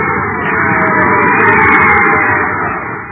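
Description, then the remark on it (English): A large crowd at the Interplanetary School Stadium on Terra roars and cheers the winner of a baseball game in a steady, dense wash of voices, swelling slightly in the middle before easing off at the end. “Listen to that crowd cheer the winner.”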